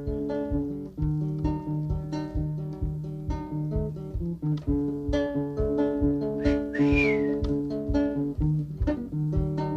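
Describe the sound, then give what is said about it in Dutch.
A brief, rising whistle at women glides upward over a steady, rhythmic band accompaniment, standing out clearly for a moment midway through the music before fading back into the instruments. “Fluiten naar de miekes, zoals die van den bouw.”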